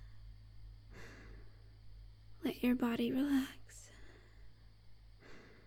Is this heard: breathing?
yes